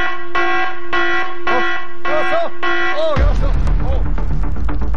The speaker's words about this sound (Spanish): Oh, me había asustado por la alarma.